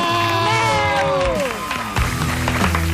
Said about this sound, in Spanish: Va, un aplaudiment! Que vaja!